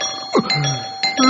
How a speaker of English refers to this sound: The doorbell, who's that? Will you stop with the doorbell? Oh, sorry, I just really love the sound of doorbells, you know? I like how they go, bing bong!